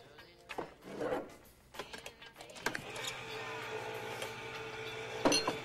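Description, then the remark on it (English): A man attaches a tin can to an electric can opener: a few clicks and clunks as the can is fitted, then a steady, buzzing motor whir that runs on to the end, with a brief louder clank near the finish. “A man takes a mug out of a microwave and attaches a tin can to an electric opener.”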